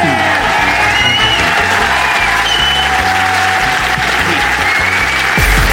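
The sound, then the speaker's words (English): A crowd applauds loudly and steadily, a dense wash of clapping with scattered cheers and whoops rising above it, sustained throughout without a break; an audience at the Leicester Square Theatre applauding Adam Buxton. “But for the moment, will you please give it up for the incredible Adam Buxton”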